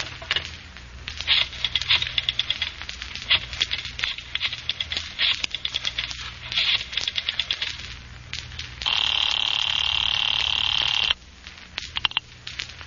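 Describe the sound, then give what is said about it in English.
A telephone on a desk being dialed: bursts of quick, rattling clicks with short pauses between them, then a steady electronic tone for a couple of seconds, followed by a few more clicks. “Oh, if you want to use a phone, you may use mine right there on the desk.”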